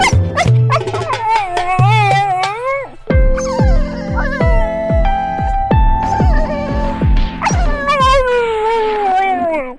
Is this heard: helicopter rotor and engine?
no